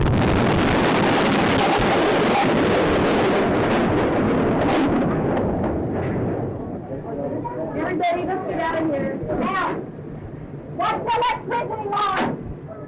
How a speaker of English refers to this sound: A massive car bomb exploded outside of a large federal building in downtown Oklahoma City, shattering that building, killing children, killing federal employees, military men, and civilians. The bomb weighed nearly 7,000 pounds